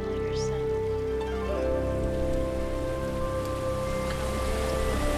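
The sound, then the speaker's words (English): Continuous bubbling, rushing river water, off in the distance, forms a steady, even wash of sound, with soft sustained tones humming beneath it throughout. No voices are heard. “You hear the hypnotic sounds of the bubbling of the rivers and the waters off in a distance, and nature seems to be lulling you to sleep.”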